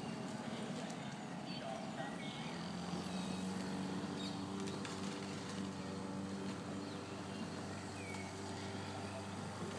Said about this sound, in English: I think there's a boat in the river down there somewhere.